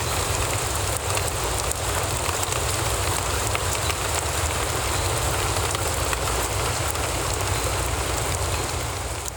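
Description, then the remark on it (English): Steady, dense rainfall patters down without pause, a constant wash of hissing drops with a low rumbling undertone and no voices. “Like this request from Miracle at Hill Correctional Center, who asked to hear the relaxing sound of rain.”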